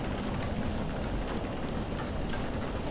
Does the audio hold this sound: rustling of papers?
no